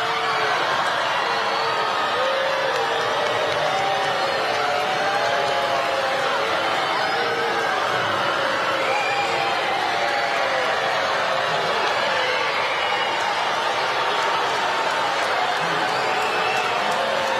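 A large crowd murmurs and chatters continuously, a dense wash of many overlapping voices, with scattered calls and sporadic boos rising out of the steady din. The crowd is talking and booing during an address by the First Lady of the United States in Baltimore.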